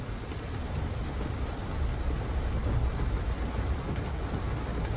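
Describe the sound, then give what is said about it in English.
Steady heavy rain pours down with a low rumble of thunder rolling underneath, a dense, continuous storm wash with no voices. “Make it stop raining, Lord!”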